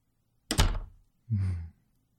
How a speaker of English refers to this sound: May I come in? Excellent. May I close and lock the door behind me?